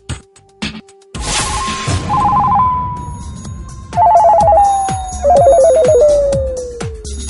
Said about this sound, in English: The phone is ringing.